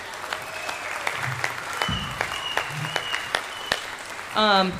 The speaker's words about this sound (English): So please give this band and the B band another round of applause.